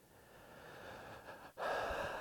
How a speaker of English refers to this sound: You hear my breathing become more ragged as I pick up pace